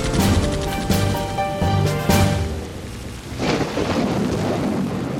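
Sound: rain and thunder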